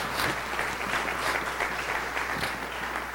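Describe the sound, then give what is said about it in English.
A large church audience claps steadily throughout, giving the Lord a hand clap: a dense, continuous wash of many hands applauding at an even, sustained volume with no voices standing out. “Can you give the Lord a great big hand clap?”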